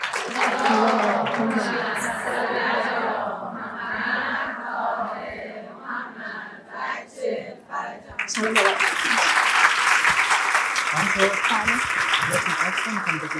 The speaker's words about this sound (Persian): و 2 تا از دوستان عزیزمون که خیلی مشتاق بودیم حضوراً در خدمتشون باشیم، ولی خب بنده توفیق نداشتم، این 2 بزرگوار رو هم به بهترین شکل تشویق کنید.